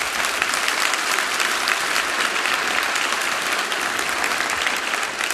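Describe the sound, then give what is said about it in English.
A crowd applauds during a sermon, the applause given to the Lord, many hands clapping steadily and fairly loudly in a dense, even wash that holds at the same level for several seconds without any voices over it. “Look, that applause goes to the Lord who is the source of this.”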